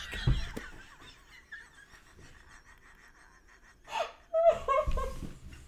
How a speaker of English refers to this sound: Why do you sneeze like that? I don't sneeze like that. My wisdom tooth is still a little sore. The area where they pulled my tooth out. So when I sneeze, it's all connected.